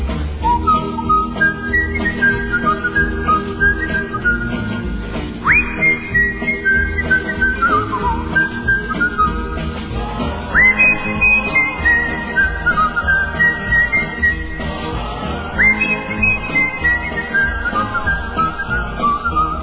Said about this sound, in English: So pick a little song and whistle along the way the happy whistler goes.